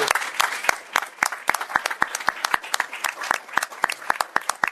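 An audience applauds steadily, a dense wash of many hands clapping with sharp, bright individual claps popping out irregularly above it, sustained at an even, moderate level with no voices.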